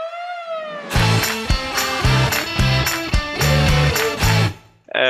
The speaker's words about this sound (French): Je vais vous faire écouter un jingle.